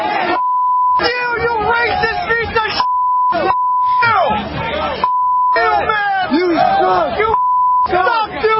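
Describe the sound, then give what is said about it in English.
Yankee fans at Yankee Stadium in the Bronx jeer Senator Ted Cruz with a Bronx cheer at an American League Championship Series game against the Houston Astros, shouting loudly and continuously, harsh yelling voices repeatedly interrupted by a steady, high-pitched censor bleep that cuts in several times. “Well, here's how Senator Cruz was greeted by the eager crowd of Yankee fans in Yankee Stadium in the Bronx.”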